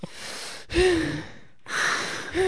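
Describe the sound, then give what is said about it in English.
Loud breathing into a bag of fries: a few deep, rasping inhales and exhales, some with a slight voiced gasp, one after another with brief pauses between them. No talking. “The fries in the bag, and I do like my breathing exercises in the bag.”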